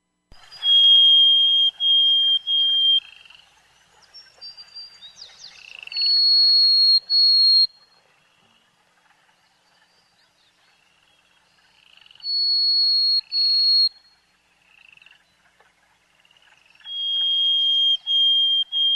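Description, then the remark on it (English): Harris's sparrow song: four phrases of clear, pure whistled notes, each a few long steady tones held on one high pitch before shifting, separated by quiet pauses, with no talking. “That is the Harris's sparrow.”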